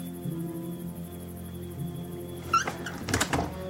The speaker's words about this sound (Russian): Довжик стучит в дверь Норы.